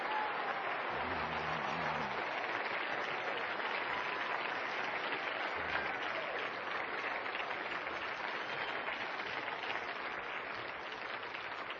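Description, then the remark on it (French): A large group at a Christian worship service claps steadily for about twelve seconds as a hand of praise to the Lord, a dense, sustained wash of applause with no talking over it. “Déposez vos Bibles un instant et avec vos deux mains, donnez une main d'acclamation au Seigneur.”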